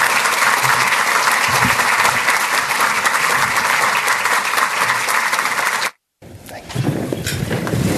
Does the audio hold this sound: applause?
yes